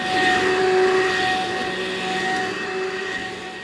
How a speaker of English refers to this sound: Since it's Volentine's Day, let's vacuum.